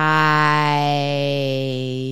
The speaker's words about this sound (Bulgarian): Мојот аларм го прави најубавиот звук рано наутро. Сакаш ли заедно да го слушаме?